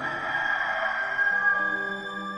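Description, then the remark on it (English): A rooster crows once in a long, steady, strained call that holds for a couple of seconds, fairly loud, with no voices around it, in a retelling of Peter's denial of Jesus in Jerusalem. “I tell you, Peter, the cock will not crow this day before that you shall three times deny that you know me.”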